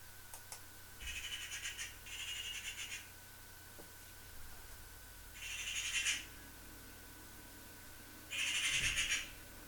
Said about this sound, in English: A magpie gave a screech.